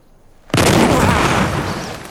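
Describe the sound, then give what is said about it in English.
A single loud, heavy gunshot from a large-caliber gun cracks out after a moment of quiet, then rolls into a long, broad echoing boom that slowly fades; the shot strikes a tree about 8 feet up. “Oh, man, that's a big one. It's like firing a cannon.”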